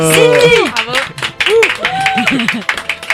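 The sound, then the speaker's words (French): An audience applauds a winner announced after a jury's deliberation, steady clapping mixed with loud excited cheers and whoops whose pitch rises and falls over the noise throughout. “Comment on peut applaudir une conne à ce point?”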